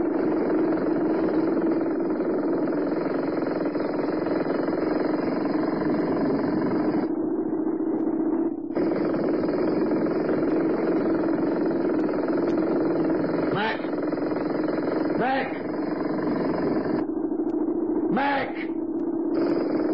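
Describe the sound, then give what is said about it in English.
A jackhammer runs loud and steady, a dense droning rattle that cuts out briefly partway through, then resumes, with a few short whining bursts toward the end. “If you keep on with the jackhammer, you'll be as deaf as a doorpost.”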